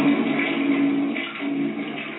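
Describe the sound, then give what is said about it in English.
A toilet flushes with a steady rush of swirling water that stays loud for about two seconds, with a slightly muffled tone and no voices. “Gonna flush it, not gonna make it on the show.”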